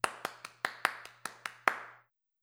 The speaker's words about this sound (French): Quand le spectacle est terminé, maman applaudit. Elle frappe ensemble les paumes de ses mains.